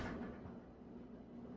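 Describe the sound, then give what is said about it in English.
A heavy thud as someone beats on a refrigerator door, with a dull resonant rumble lingering afterward. There is no talking. “Yes, he's beating on my refrigerator door.”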